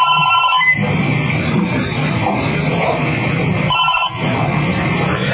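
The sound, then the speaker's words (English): A telephone rings continuously from a SIP call during fuzzing tests, with a harsh, buzzy electronic tone. It briefly drops out twice before resuming and keeps ringing because the connection is not closed. It is loud, with no voices present. “of course, you notice it keeps ringing because I don't actually close the connection.”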